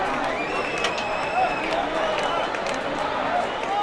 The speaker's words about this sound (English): The crowd heckled people displaying Spanish or Catalan flags, and police escorted at least one flag waver away to applause.